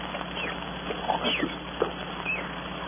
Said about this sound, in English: Monkeys, those crazy monkeys, I could strangle them.